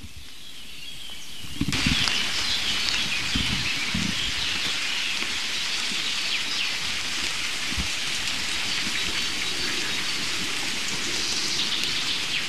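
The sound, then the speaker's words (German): Heavy rain pours down steadily in a dense, hissing wash, starting abruptly after a brief quieter moment, with a few low thumps of drops hitting a surface. No one speaks. “Dass, falls es noch nicht ordentlich geregnet hat in euren Regionen, ihr euch zumindest für mich freuen dürft.”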